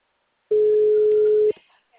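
A telephone ringback tone: one steady, loud, mid-pitched hum lasting about a second and cutting off cleanly, followed by faint rustling noise.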